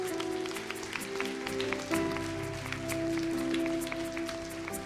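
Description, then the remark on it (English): A crowd claps steadily for several seconds after a prayer in Jesus' name, welcoming those who prayed to the family of God, dense and fairly loud, over sustained, mellow keyboard chords playing underneath. “Just give a hand clap, yeah?”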